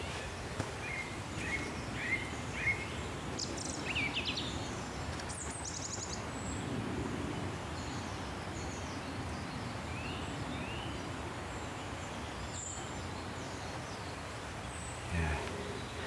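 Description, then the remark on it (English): Several birds sing and chirp at a distance along a green lane, with quick repeated notes and occasional higher whistles scattered over a steady, low outdoor ambience; no one speaks. “And so I'm sort of walking up a green lane. Yeah, listen to them.”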